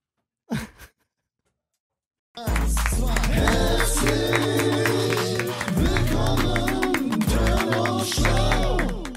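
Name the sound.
audience applause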